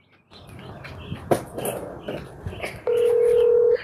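Scattered noisy activity with a sharp click, then a steady loud single-pitched tone holds for about a second at the end, as a phone call to a guest is placed on speakerphone.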